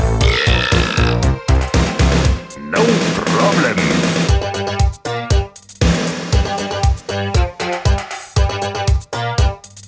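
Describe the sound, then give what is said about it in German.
A loud, long, rumbling burp with a rough, gurgling texture, sounding almost continuously and breaking into several bursts and grunting pulses before trailing off near the end. “Ich mach jetzt ein Bäuerchen.”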